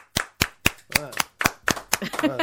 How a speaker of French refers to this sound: Tiens, l'applaudis, allez.